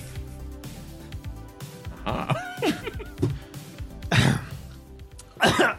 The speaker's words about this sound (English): I'm coughing through the hairspray.